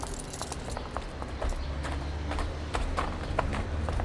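Horse hooves clip-clop in a steady, unhurried rhythm as horses arrive at a hotel converted from a stud farm, with a low rumbling background underneath and no voices.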